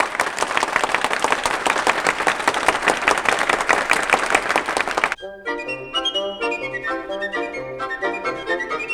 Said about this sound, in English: Oh, do you believe in fairies? Please say that you believe. If you believe, clap your hands. Clap your hands!